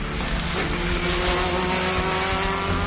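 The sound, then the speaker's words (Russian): A mid-engine Audi Sport Quattro S1 rally car from the collection of a band's drummer runs loud, a steady rasping drone whose pitch creeps upward slightly as it revs. No voices, just the continuous mechanical roar. “Среднемоторная Audi Sport Quattro S1 – жемчужина коллекции барабанщика группы … ….”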